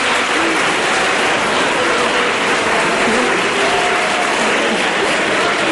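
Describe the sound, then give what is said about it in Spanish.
Steady, loud applause from an audience for four children about to recite a poem from memory for their school's anniversary, a dense wash of many hands clapping that holds at an even level for about six seconds without letting up. “Les damos un aplauso para que se nos”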